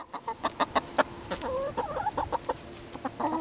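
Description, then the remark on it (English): Several red, brown, and speckled hens cluck in a busy, uneven patter of short calls, with a few drawn-out warbling notes mixed in, as they peck at early spring grass on a family farm, over a soft outdoor background. “Red, brown, and speckled hens peck at early spring grass while they wait for”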